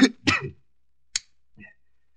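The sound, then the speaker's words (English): A few harsh coughs: two quick ones back to back, then a short sharp cough after a pause and a faint final rasp, with no talking. “with that cough of yours, perhaps I'd better broadcast tonight.”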